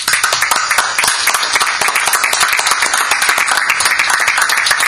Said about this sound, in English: Let's give our veterans a round of applause.